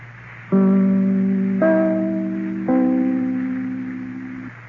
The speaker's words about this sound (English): Well, there's the theme song of the …, and they'll be with you immediately after your station announcement.